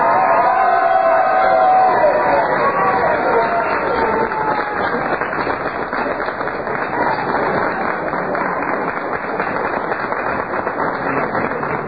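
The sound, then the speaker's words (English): A large crowd cheers and claps loudly and continuously, a dense roar of voices with whoops and rapid applause filling the whole stretch. “We have a very enthusiastic crowd here, as you can hear.”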